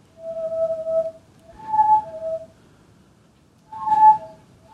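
A modern version of a reindeer or elk windpipe whistle toy, a children's toy from Finnish Tornedalen, sounds three breathy bursts, each a steady mid-pitched tone that steps slightly up or down, wrapped in airy hiss, with pauses between and no talking.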